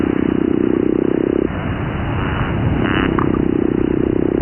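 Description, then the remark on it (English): A low, rough growling sound produced by a fish with its swim bladder, steady and buzzing, drops off briefly in the middle and then returns, against a noisy underwater background. “And you have growls.”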